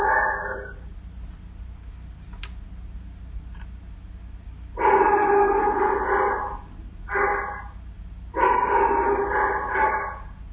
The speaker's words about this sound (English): No, my apologies about the dog. I was planning on going to my office today to make sure that this doesn't happen, but they're closed.